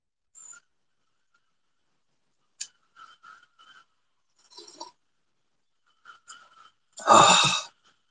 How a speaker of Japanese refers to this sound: カエルの音も入るよ、これ。めちゃめちゃカエル元気になってる。雨降ると元気になるからな、あいつらは。